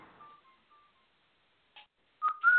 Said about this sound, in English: Hello, everyone. I had to do a little whistle.